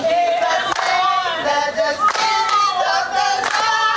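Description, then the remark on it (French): Loud, continuous applause from CRTV staff in Douala honouring retiring colleagues, dense clapping running the whole time with raised cheering voices and high-pitched calls layered over it. “Pas une haie d'honneur au pinacle des acclamations, chacun des désormais retraités a reçu de l'ensemble du personnel des cadeaux dignes de leurs nouvelles aspirations.”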